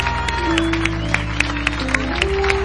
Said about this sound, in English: Oh, you're clapping like you didn't need nothing changed.